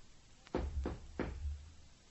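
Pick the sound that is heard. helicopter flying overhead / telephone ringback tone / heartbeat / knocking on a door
knocking on a door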